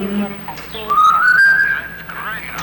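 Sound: person whistling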